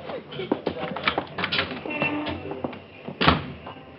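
A door opens and closes: a run of clicks, rattles and shuffling builds to a solid latching thump near the end, moderately loud, with faint movement noise around it.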